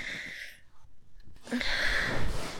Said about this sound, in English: Deep, noisy pulls of air. Right against the wet trail you just left.